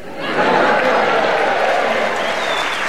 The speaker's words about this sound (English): I should explain to our listeners the reason everybody in the audience has clapped is because it's a very famous haunt here in Harrogate.